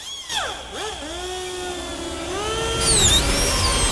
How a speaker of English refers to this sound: she starts to cut the bone